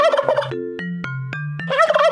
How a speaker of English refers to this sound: Turkeys, they gobble.